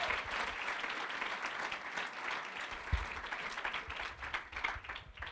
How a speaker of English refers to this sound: Can you give a hand clap for